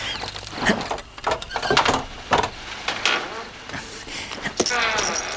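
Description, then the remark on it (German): An unlocked door is eased open quietly, with a series of soft clicks, scrapes and creaks from the latch and hinges, plus some light rustling. “Der Idiot hat nicht abgeschlossen.”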